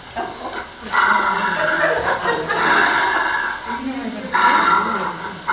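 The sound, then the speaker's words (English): A dog growls and snarls in rough, breathy bursts while resource guarding his chew against his own lip, with short pauses between outbursts, loud and continuous over a few seconds. “Okay, so this is the dog who is resource guarding himself.”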